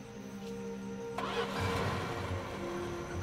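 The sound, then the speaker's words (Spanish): A car engine cranks and turns over with a sudden burst of noise, then settles into a rough, low rumbling idle that swells slightly. No voices, just the steady mechanical drone. “También se llevó su auto.”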